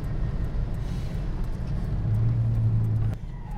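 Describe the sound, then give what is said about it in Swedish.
A car engine drones steadily from the cabin while driving, with a low rumble that shifts pitch as the driver brakes and drops down into second gear, then settles again. “bromsar vi ner till tvåan. Så kör vi bort i lampaffären.”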